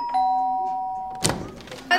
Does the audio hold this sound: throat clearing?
no